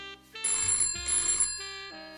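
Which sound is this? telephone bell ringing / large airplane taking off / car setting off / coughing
telephone bell ringing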